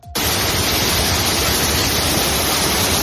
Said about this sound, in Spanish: Y es que siguen las tormentas y las lluvias torrenciales en varios puntos, sobre todo en Baleares, que siguen en alerta roja en estos momentos.